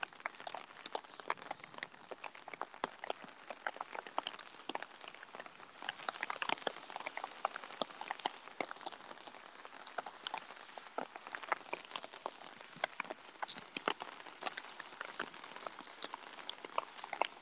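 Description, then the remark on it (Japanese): Heavy rain pours down steadily in cold weather, a dense, crackling patter of drops hitting a surface, continuous for the whole stretch with a few sharper splats standing out. “雨がうるせえ。”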